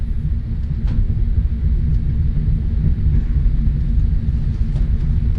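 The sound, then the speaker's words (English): A steady, heavy low rumble of dense Friday rush-hour traffic in London at sunset fills the scene, continuous, with faint brief clicks and hisses over the droning engines and no voices. “The sun setting on the skyline of office blocks and council flats as we enter the dense city, as more and more workers join the rush hour with that Friday feeling.”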